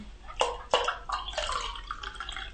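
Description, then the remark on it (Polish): Water splashes and trickles into a bowl as more water is added to yeast and flour for dough, starting with a couple of sharp splashy bursts and then settling into a steady, burbling pour. “Dodajemy więcej wody.”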